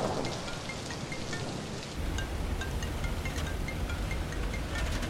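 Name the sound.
heavy rain pouring down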